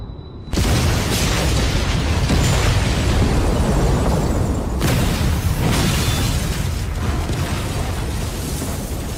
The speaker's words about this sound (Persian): انفجار دوم، 17 اوت 2025، ساعت 12:30 نیمه شب.